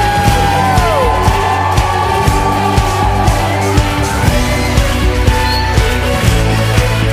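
A crowd at a Christian worship event, told to say "woo", shouts a long, sliding "woo" that falls in pitch, then keeps cheering and yelling loudly over steady, driving music with a thumping beat.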